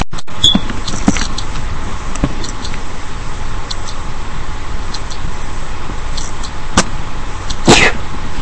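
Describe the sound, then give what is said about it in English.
A single sharp, breathy sneeze bursts out near the end over a steady low rumble, preceded by a brief faint click. No one speaks. “Ah, sorry, sneezed.”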